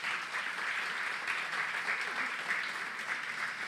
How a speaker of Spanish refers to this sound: Dar un aplauso a Jesús una vez más hoy.